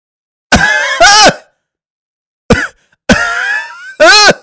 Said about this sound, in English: You sound like you're coughing.